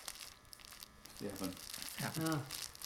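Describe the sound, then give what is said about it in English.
A hedgehog, Hector, rustling through dry leaves just under the surface, a steady crinkling and scratching that runs throughout, with brief bursts of human voices talking over it partway through. “Very noisy hedgehog. Very, very noisy. Look, hear that?”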